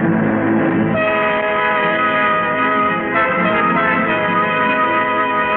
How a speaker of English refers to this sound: I'd won this time. I'd stopped the train. I'd won.